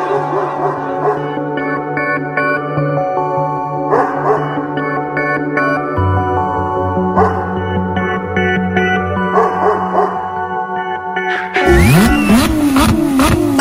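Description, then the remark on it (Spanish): Steady music plays for most of the stretch, then cuts to a loud engine revving hard, its pitch sweeping up and down as it accelerates for the final couple of seconds. “Motores, ha llegado la hora de pisar el acelerador.”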